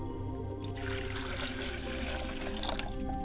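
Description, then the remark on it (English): Liquid is poured out as a libation in a steady, unbroken stream for a few seconds, a continuous splashing trickle at even loudness with no talking. “Iba ashe, may the blessings and the praises be added to the words for Oladulamare as we lift up unions of relationship around the world as I pour libation to my mother spirit.”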